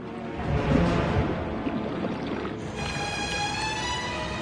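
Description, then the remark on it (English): A boat heads upriver in the early evening light, moving steadily through water with a continuous churning and sloshing wash and a low engine hum that grows more tonal partway through. No one speaks. “As the boat heads upriver in the early evening light, below it in the water swims the anaconda.”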